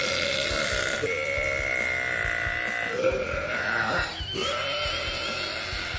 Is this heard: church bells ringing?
no